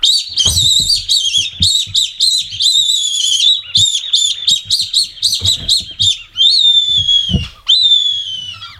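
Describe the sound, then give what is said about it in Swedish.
A predator call mimicking an injured bird: loud, shrill, high-pitched squealing chirps in rapid bursts, giving way to longer drawn-out wavering cries toward the end, with no talking. “Det är alltså en skadad fågel, det låter som.”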